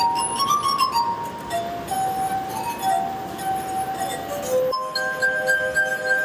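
Glass harp music: pure, sustained ringing tones from rubbed glasses, played as a slow melody with notes shifting pitch and overlapping, steady and fairly loud throughout with no talking.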